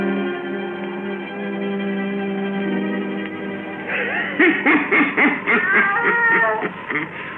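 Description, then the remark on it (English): A black cat named Satan meows several times in quick, wavering cries, fairly loud, following a sustained eerie musical drone that fades beneath the meowing. “Weird, blood-chilling tales told by old Nancy, the witch of Salem, and Satan, her wise black cat.”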